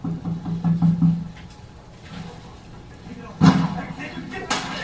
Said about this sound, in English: So there's the first shot.